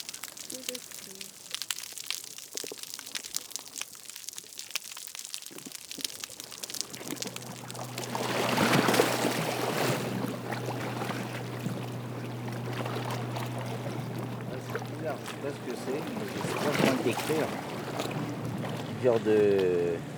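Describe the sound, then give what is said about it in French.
Loud, rapid surges of big, fast churning waves roll in one after another, a steady rushing wash over a low underlying rumble, building from a quieter start and staying continuous. “De grosses vagues rapides, gros bruit de vagues rapides.”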